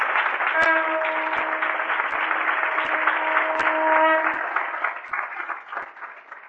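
A crowd claps loudly and steadily for several seconds, a dense wash of applause that thins out toward the end, with a few sharp knocks and a faint tonal hum underneath.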